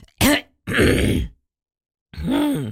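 A person clears their throat in three bursts: a short voiced grunt, a longer raspy, gravelly scrape, then after a pause a final hummed, groaning clear. Fairly loud, with no talking.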